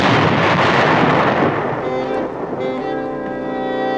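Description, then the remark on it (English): A loud, rumbling burst of gunfire from American troops booms at the start, then fades as sustained English horn tones rise and continue to the end. No one speaks. “No, no, no, before that. Gunfire.”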